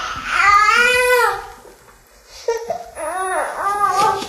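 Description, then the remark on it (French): A baby cries in two loud wailing bursts, each rising and falling in pitch, with a short gap between them and no talking over it. “C'est-à-dire un homme est venu l'acheter et cet homme, c'est le père du bébé qui est en train de pleurer maintenant.”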